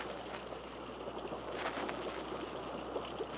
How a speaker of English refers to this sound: Sounds like a waterfall somewhere ahead.